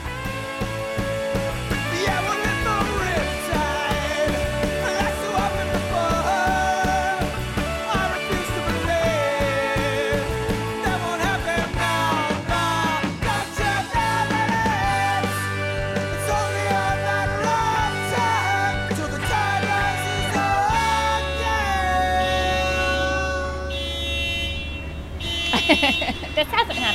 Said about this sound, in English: Cable Car Bell Ringing by 8-time champion Byron Cobb.